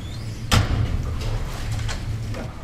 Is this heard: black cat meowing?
no